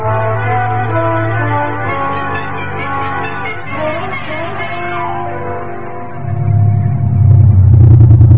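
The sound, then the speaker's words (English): A car engine hums in a steady low drone, then swells louder and deeper over the last couple of seconds as the vehicle pulls away from the curb or speeds up. No voices. “The car's right down at the curb.”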